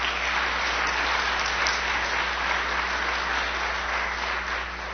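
An audience claps in steady, dense applause that holds at an even level for several seconds before easing slightly at the end, with no voices standing out.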